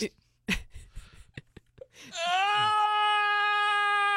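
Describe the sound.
A few soft breathy clicks and inhales, then a loud, drawn-out voiced yawn that slides up and holds a steady, groaning pitch for about two seconds.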